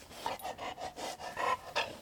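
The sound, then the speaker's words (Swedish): A guide dog panting, quick rhythmic breaths repeating steadily about every quarter second, with no voices. “Du flåsar.”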